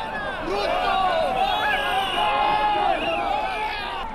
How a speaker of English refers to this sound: Crowds push and shove to enter Kasarani Stadium to witness the inauguration ceremony.